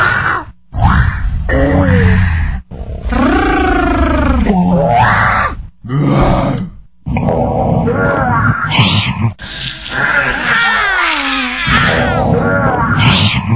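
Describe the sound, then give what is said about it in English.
Children from around the world imitate lion roars one after another: a string of loud, rough, growling bursts with swooping pitch, some overlapping, separated by brief pauses. “These are lion roars from kids around the world.”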